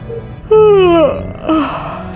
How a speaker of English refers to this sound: Have I really been awake that long? Another jaw-cracking yawn, and she decided that awake might not be the right term.